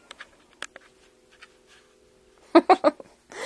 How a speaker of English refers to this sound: It just, totally can hear my cat in the background. I'm so sorry. He really likes to be a part of these sometimes.